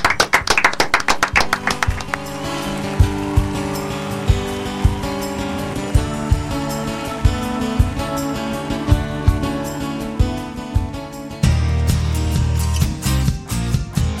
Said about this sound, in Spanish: Con un aplauso terminamos el programa, gracias.